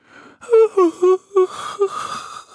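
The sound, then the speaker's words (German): A voice imitates the drawn-out yawn of a little bat: a few short voiced bursts followed by a long, breathy exhale, moderately loud with no talking. “Gähnt sie.”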